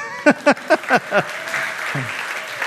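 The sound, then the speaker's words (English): Five sharp, evenly spaced hand claps ring out, then a softer, diffuse wash of audience applause spreads out and carries on steadily until the end. “You can clap at that.”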